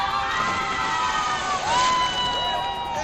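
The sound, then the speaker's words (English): A large outdoor crowd on a beach in Sydney, Australia, cheers and shouts continuously as a naked man goes into the water. Many overlapping voices whoop and yell at a fairly loud, steady level, with a brief swell midway. “The crowd's going crazy out here in Sydney, Australia.”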